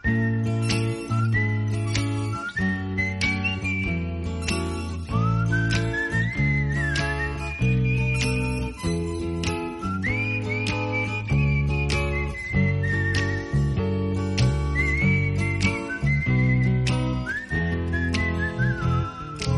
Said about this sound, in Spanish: Y yo, cuando no sé qué decir, lo que hago es ponerme a silbar.